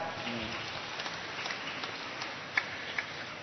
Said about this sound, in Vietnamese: Rồi, cho một tràng pháo tay.